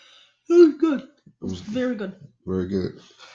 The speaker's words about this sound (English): As he yawns.